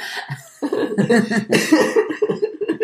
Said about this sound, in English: Oh, my God. I'm like coughing on the side.